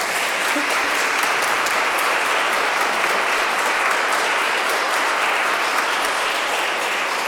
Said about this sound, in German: Ich denke, da können wir kurz klatschen.